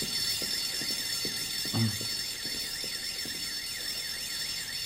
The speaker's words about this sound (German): Und außerdem löst er auch noch den Alarm aus.